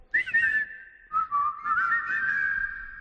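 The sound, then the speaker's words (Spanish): A person whistles a short, clear melody, two phrases separated by a brief pause, the second one longer with gently shifting pitch. No one speaks. “Yo voy a hacer como que silbo, pero ya no voy a hacer nada más.”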